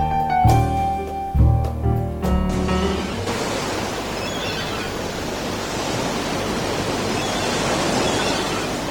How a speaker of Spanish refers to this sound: Desde luego relaja muchísimo, María, las olitas del mar, es maravilloso.